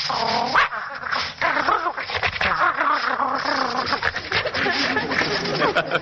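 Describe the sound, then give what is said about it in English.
A man's voice imitates a playful dog, a loud, continuous run of excited yips, whines and growly barking noises that lasts several seconds, with a thin, old-radio quality. “And when he feels like playing, he'll sound like this.”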